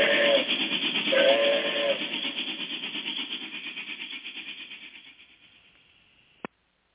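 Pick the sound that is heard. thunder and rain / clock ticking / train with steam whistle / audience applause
train with steam whistle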